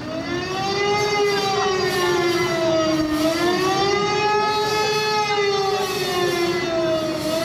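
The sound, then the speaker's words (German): A loud, sustained alarm siren sounds at exactly 6 p.m. from a large bus bearing the lettering Adenauer, parked in the middle of a square. It wails continuously, its pitch slowly rising and falling in a smooth undulating tone with rich harmonics, steady in volume throughout with no voices. “Mitten auf dem Platz steht mittlerweile ein großer Bus mit dem Schriftzug Adenauer und der macht dann Punkt 18 Uhr auch richtig Alarm.”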